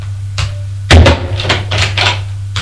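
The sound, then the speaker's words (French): A bedroom door opens: a sharp latch click, then a solid thump followed by a few quick scraping, knocking bursts, all over a steady low electrical hum. “Deux heures plus tard, il ouvre la porte de la chambre.”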